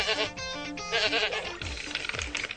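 Goats bleat loudly, several quavering, nasal cries overlapping in quick succession, with no talking.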